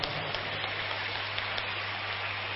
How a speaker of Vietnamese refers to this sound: Nếu dễ làm thì các cháu hãy dành tràng pháo tay để tự khen ngợi mình.